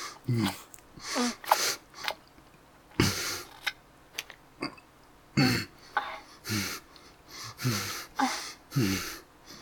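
cough

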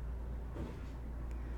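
cars driving by outside

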